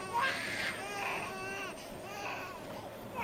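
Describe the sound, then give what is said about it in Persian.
A baby wails loudly and continuously, its high, strained cries rising and falling in pitch with little pause, filling the whole moment. “تو مادرشی پس خفش کن دیگه.”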